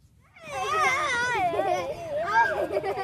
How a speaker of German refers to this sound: Kindertrubel hört Lan Yanfei derzeit nur im Freien.